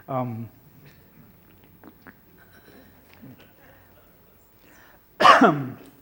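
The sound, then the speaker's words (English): A brief voiced grunt, then a quiet pause with faint small noises, followed by one loud, harsh throat-clearing cough as a speaker interrupts his talk to cough and expectorate. “Excuse me, it's so extroverted, I have to cough and expectorate.”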